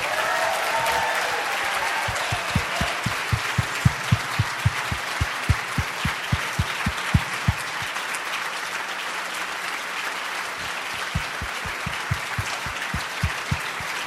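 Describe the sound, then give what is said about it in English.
Sustained applause from an audience for the Yes Men, a dense wash of clapping with rhythmic, evenly spaced claps standing out, steady in loudness throughout with no talking. “Let's give a big round of applause for the Yes Men.”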